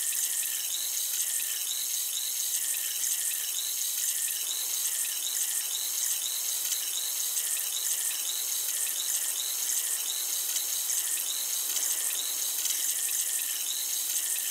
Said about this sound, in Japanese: 炭酸を用いた耳洗浄をしております。この耳で弾けるシュワシュワとした音と感覚が心地いいですよね。